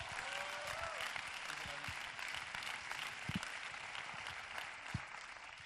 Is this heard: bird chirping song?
no